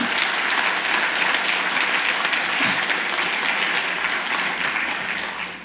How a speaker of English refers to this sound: I hope you're clapping there for the worship team. Wasn't that awesome worship?